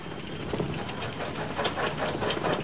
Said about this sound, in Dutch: Ik zet de motor nu weer aan.